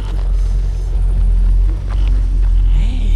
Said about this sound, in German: Hey! Da! Ein Auto kommt! Köpfe runter! Los!